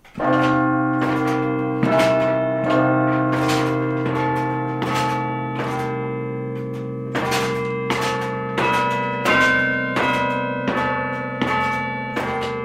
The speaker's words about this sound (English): The carillon is in a tiny stone room in the bell tower, about four stories up. Directly above are the church's 43 bells, each one connected by a wire to one of those broom-handle batons.